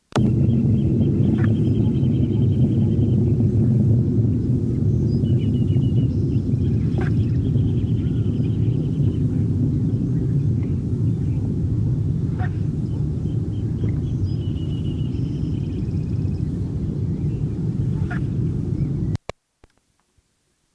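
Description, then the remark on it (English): A juvenile hummingbird, its bill about 95% of full length, with scattered red feathers in the throat and auriculars but none in the crown, sings long sequences of thin, high, scratchy buzzes and chips, repeated in short bursts over a loud, steady low rumble, with a few sharp ticks scattered throughout. “long sequences by Eclectiana juvenile, whose bill was about 95% of full length, with scattered red feathers in the throat and auriculars, but none in the crown.”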